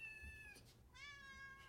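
A cat in a cats and kittens video meows twice in a row, two drawn-out, tonal cries separated by a brief pause, fairly quiet and heard on their own with no talking.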